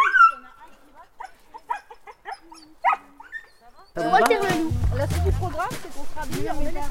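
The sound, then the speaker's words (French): Dogs bark and yip in short, sharp bursts, sparse at first, then a louder, busier stretch where the calls mix with voices and a low rumble. “Ils sont vifs, ces chiens, dis donc, hein.”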